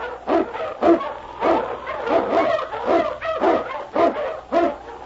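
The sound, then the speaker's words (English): King, an Eskimo lead sled dog from Sergeant Preston of the Yukon, barks and yips in a rapid, repeated series, about ten sharp excited calls in five seconds, fairly loud with no other sounds around. “King, the swiftest and strongest of Eskimo lead dogs, blazes the trail through storm and snow for Sergeant Preston as he meets the challenge of the Yukon.”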